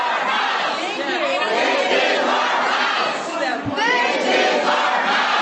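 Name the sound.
big crowd cheering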